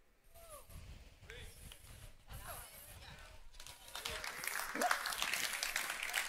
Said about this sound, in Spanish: Yo no esperaba un aplauso en eso, pero si usted quiere aplaudir, hágalo.